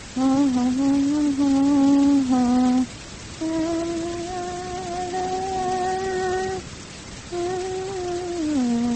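Three long, drawn-out cat meows, loud, each held for a couple of seconds with a slight downward slide, separated by brief pauses, with no talking.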